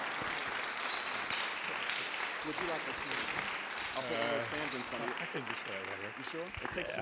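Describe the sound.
A crowd applauds steadily for several seconds as a pastor is introduced, a dense wash of clapping with cheers and a few voices rising over it before it begins to taper.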